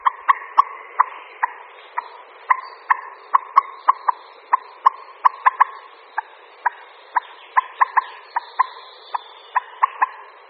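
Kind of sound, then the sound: bird, common moorhen calling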